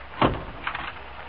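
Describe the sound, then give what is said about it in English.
A door is opened: a sharp latch clunk followed a moment later by a softer rattling scrape as it swings, with no voices. “Open the door.”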